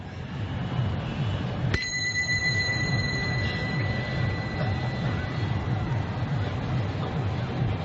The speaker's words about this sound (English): A Mumbai train.